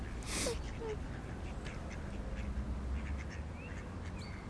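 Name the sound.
ducks quacking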